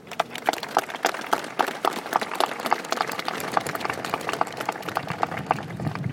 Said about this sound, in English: for their hard work dedicated to organization of annual Victory Day ceremony and other events. Let's applaud them.